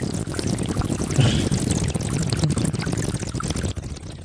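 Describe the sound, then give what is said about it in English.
A continuous gurgling and bubbling of water as someone tries to whistle underwater in a tub, with only a brief thin tone surfacing before it stops abruptly near the end. “Can you whistle underwater?”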